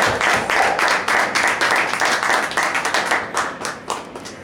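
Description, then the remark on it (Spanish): Audience applause for the team behind a project at a press presentation: many hands clapping in a dense, steady patter that stays loud throughout, then thins toward the end as individual claps become distinct. No voices are heard. “Y pues bueno, sí quiero un aplauso para todos nosotros que formamos esta proyecto.”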